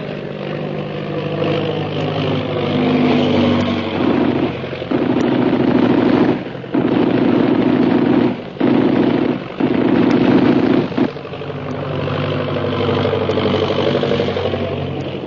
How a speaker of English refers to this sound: They were shooting that plane down, the way they tried to send us down.